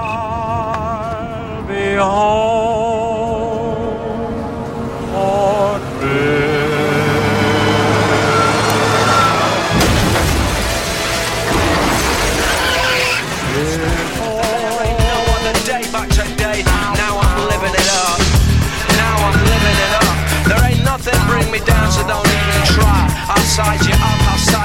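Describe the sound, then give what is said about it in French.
A bus slams into a car in a TV drama scene, killing the man in the car: loud engine noise swells, then a sudden violent crunch of impact followed by a long stretch of clattering, grinding wreckage, continuous with no voices. “Il meurt percuté par un bus en voiture.”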